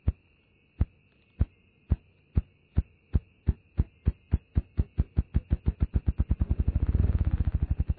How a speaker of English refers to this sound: It may be the weirdest noise in the woods, the thrumming whumps of the male ruffed grouse.